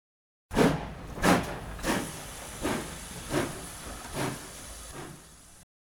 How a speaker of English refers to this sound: Father, is that a monster? It's a train, my boy. George Stephenson built the train's engine and the railway. Now, he's driving the train.